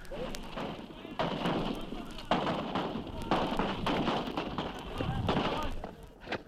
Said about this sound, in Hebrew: עדיין מסוכן להסתובב כאן, פה ושם יריות של צלפים.